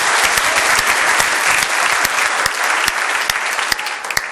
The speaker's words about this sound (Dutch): En ik denk dat dat gelijk ook een heel groot applaus is voor alle vrijwilligers die vandaag eigenlijk vanaf vanmiddag al in touw zijn geweest om ons klaar te zetten voor te bereiden.